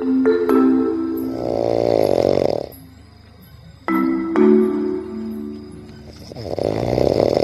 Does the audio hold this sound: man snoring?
yes